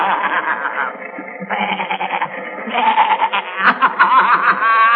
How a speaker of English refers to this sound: Hey, what are you fellas doing dancing around like that? Yeah. You can't fool me. There are a lot of billy goats.